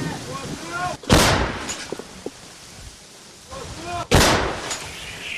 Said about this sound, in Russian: После стрельбы бойцы, как обычно, укрываются на случай ответного огня.